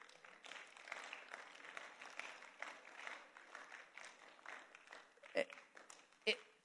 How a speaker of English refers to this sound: Thank you. Another slow clap, please.